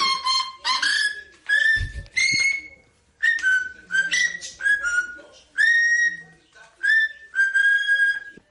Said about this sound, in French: eh bien, on va écouter maintenant un hommage assez étonnant, rendu non pas par un piano, non pas par des chanteurs, non pas par des footballeurs, mais par un perroquet.